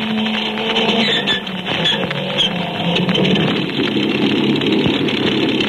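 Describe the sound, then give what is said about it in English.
The motors of a big amphibian plane are started by the pilot, churning and droning in a loud, steady, rough engine roar with a low humming tone running beneath it throughout, with no voices. “Jack Armstrong in the pilot seat of the amphibian is just starting the motors of the big plane.”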